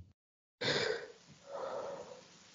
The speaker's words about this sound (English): Yeah, I just had some sneezes.